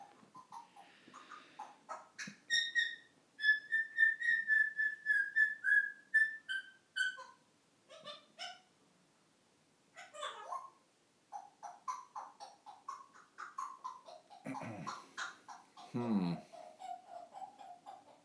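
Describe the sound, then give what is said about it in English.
A female pet bird named Lily Bird whistles in a run of bright, high, rapidly repeated notes and trills, then breaks into chattery chirps and squawks. Soft human talk can be heard underneath. “Listen to her going.”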